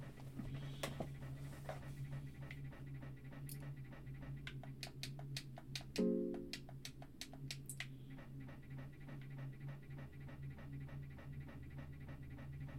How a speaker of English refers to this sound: Breathing from the darkness ahead. Something waiting for you on the other side.